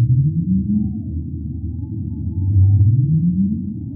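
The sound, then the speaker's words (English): Low, rising whale calls recorded underwater by acoustic buoys in and around New York Harbor and out on the shelf, two slow upsweeping moans over a constant rumble of ocean noise, with faint higher tones drifting in the background. “we have acoustic buoys that are situated in and around New York Harbor and out on the shelf that can actually listen to the calls of whales as they are either feeding in the area or passing through the area.”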